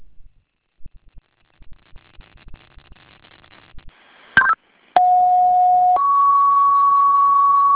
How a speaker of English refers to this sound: Again, fire alarm is retoning of first alarm for Webster Fire. 52 Hartley Street, Hartley Terrace, Building B. Callers reporting a fire in the laundry room.